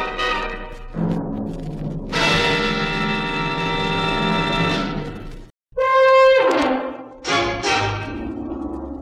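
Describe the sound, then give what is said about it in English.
The doorbell of a three-story apartment house, pressed by a woman's finger, rings with bright, loud chime tones: a long, sustained ring, then two shorter ding-dong strikes after a brief silence, with no voices. “She pressed a dainty finger on the bell”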